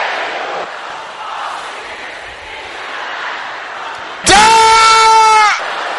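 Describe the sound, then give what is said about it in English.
A large group shouts together in a dense, overlapping roar of voices, ending with one loud, sustained, high-pitched cry that rises above the crowd for about a second. “Everybody shouting this again.”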